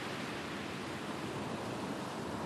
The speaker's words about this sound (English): Oh, storm's getting wilder.